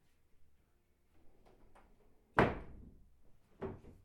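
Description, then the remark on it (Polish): A door swings shut with a loud thud that rings briefly, followed about a second later by a second, softer knock, with faint household noise beforehand. “Zamknijcie drzwi.”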